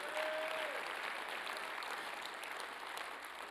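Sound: audience hand clapping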